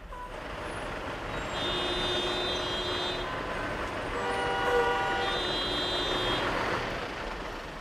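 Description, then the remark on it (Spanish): Dense, steady rumble of heavy traffic at a border crossing, vehicles passing one at a time, with engines idling and moving, horns tooting repeatedly in overlapping tones, and an occasional hiss like air brakes, all continuous. “Sí, el tráfico es intenso, los vehículos tienen que pasar uno a uno”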